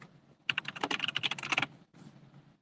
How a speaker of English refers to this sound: Yeah, you get the keyboard ASMR.